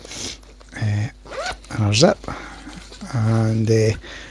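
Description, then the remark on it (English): A zipper is pulled shut on a bag's inner compartment after paperwork is put back in, its short raspy runs heard while someone talks over it. “I'll just put that back in there and close that inner zip.”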